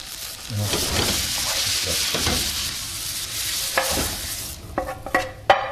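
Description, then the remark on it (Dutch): Marinated tofu fries steadily over low heat in a non-stick pan without butter or oil, browning, a constant crackling hiss, with a few scraping, stirring clatters of a utensil toward the end. “En ik heb dus zonder boter dit, of zonder vetolie, in een anti-aanbaklaag. Omdat die toch al een beetje gemarineerd was. Zacht vuur, die een leuk kleurtje krijgt, en begint te geuren.”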